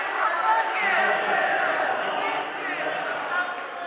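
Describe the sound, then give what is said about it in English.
The Evergreens basketball crowd taunts the rival Marshfield crowd from across the way during a game, a dense, steady roar of many voices shouting and jeering together for several seconds without a break. “The Evergreens crowd is taunting the Marshfield crowd from across the way.”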